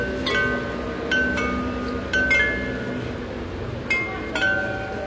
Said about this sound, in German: Die hören wir jetzt schon, während wir auf die Kirche zulaufen. Ganze 37 Glocken aus Meißner Porzellan. Als man die da oben am Turm installiert hat, im Jahr 1929, da war es tatsächlich das erste stimmbare und damit ja überhaupt auch spielbare